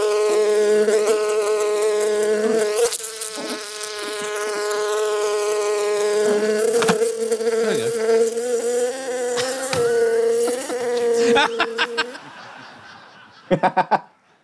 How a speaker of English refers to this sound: I like the fact that while the bee sound was on, you had the graphic of Marjorie Taylor Greene just buzzing like a